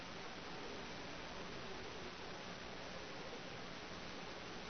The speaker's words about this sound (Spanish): La interferencia. Interference. La interferencia. No lo escucho bien. Hay demasiada interferencia.